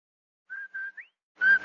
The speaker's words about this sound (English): Did I hear what? That whistle. That's the Rinso White whistle. And Rinso means us. That's right. Rinso gets clothes Rinso White,